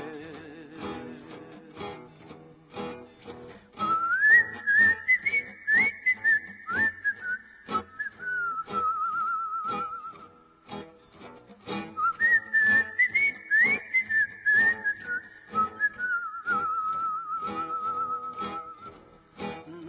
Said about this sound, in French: Sifflez, compagnons, dans la nuit, la liberté vous écoute.